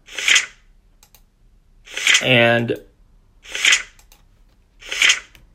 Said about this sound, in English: I was able to find a media guide for Villanova basketball, though, now. And we are going to take a look at that 2017-18 media guide. You'll hear pages turning.